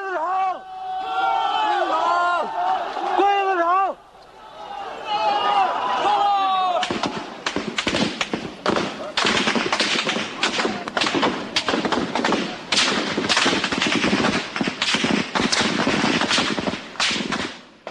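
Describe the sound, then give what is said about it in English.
A crowd of student protesters shouts and taunts soldiers in Tiananmen Square, Beijing, on June 4th, 1989, then bursts of rapid gunfire break out as the soldiers open fire, loud repeated cracks and thuds firing in quick irregular volleys over the noise of the crowd. “The crowd taunts them. They open fire.”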